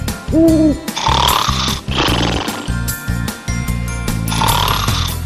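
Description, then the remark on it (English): A person snores at night in slow, rasping breaths, each loud, rising and falling with a rhythmic pulse; a brief owl-like hoot sounds at the very start. “Someone's snoring.”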